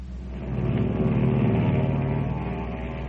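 Airplane engine noise drones steadily, a low rumbling hum with a buzzing harmonic tone that swells slightly in loudness and then holds, with no voices over it.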